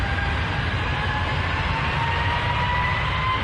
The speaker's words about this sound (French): Là, normalement, c'est le moment où vous dites, ça y est, le décollage est terminé, on va pouvoir respirer un petit peu, être plus relax.